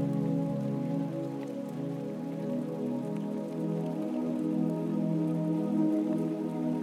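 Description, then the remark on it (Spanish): Steady rain falls continuously, a soft, even patter on a surface with scattered drops standing out. It stays at a constant moderate level throughout, with no voices. “Y con el sonido de esta lluvia, regresa poco a poco a tu respiración más consciente.”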